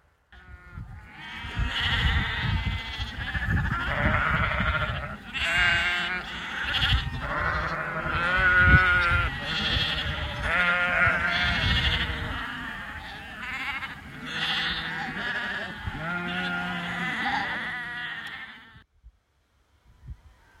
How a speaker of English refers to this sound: That was certainly an excitable flock of sheep. It looked like the farmer had just put them out onto fresh pasture, so they were getting a bit excited about it.